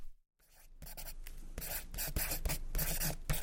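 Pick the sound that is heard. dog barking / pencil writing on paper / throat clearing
pencil writing on paper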